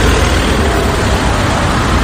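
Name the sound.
city road traffic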